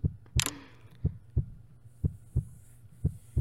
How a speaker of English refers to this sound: Just listen to my heart. Yeah. That's it. It sounds nice, right? Yeah. Let your Alpha's heartbeat soothe you.